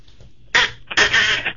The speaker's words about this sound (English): Have you ever heard me blow my duck call?